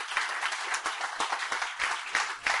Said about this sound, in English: Wow, that is amazing. Come on, give these people a huge round of applause. To jest niesamowite, zaklaszcie dla nich.